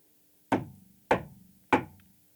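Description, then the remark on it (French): Three firm, evenly spaced knocks on the wooden door of a castle, each a sharp hollow thud with a short ringing decay, with no voices. “Et il arrive pour frapper à la porte.”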